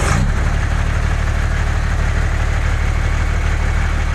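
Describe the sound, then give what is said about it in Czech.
A red excavator called Pišta, standing among other machines in front of a construction company's gate, idles with a steady, deep rumble and a faint mechanical chatter, holding an even, loud level throughout with no voices. “Pred vrátami stavebnej firmy stál schovaný medzi ostatnými strojmi červený bager.”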